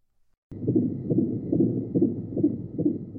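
A fetal heartbeat in the womb, recorded on the father's cell phone a few months earlier, a fast, steady whooshing pulse repeating about every half second under a low, muffled rumble, starting abruptly after a brief silence.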